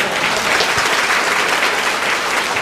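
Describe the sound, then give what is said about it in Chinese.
Sustained applause from an audience thanking a brother, a dense, steady patter of many hands clapping at an even loudness with no voices breaking through. “我们是不是在鼓掌谢谢我们的弟兄哈？”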